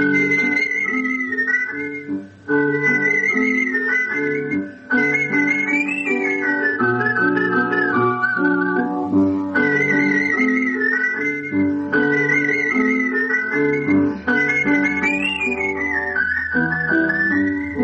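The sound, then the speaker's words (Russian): A clear, continuous whistled melody with vibrato and smooth gliding notes, performed as artistic whistling over a full instrumental accompaniment, heard in a Radio Liberty programme on artistic whistling. It plays steady throughout, with no talking. “В первой части этого выпуска передача Тамары Леленковой «Художественный свист».”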